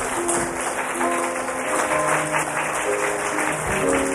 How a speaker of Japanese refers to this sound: 皆さん感謝します。大きな拍手を持って神様に栄光を返しましょう。